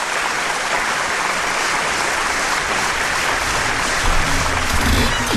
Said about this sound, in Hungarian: Ó, kedves népem, itt van együtt a csapat, itt van szívatya és trunkos atya, ünnepies tapsvihar.